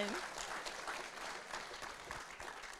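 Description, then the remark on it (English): A church audience claps for God, a dense wash of many hands with no clear rhythm, moderately loud and continuous throughout, with a brief murmur of voices at the very start. “You can give God a clap.”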